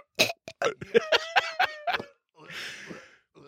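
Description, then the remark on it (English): A person vocally imitates a cat hacking up a hairball: a rapid series of loud, strained, retching gags followed by a raspy, breathy heave. “Have you tried coughing out the hairball? Have you tried just going,”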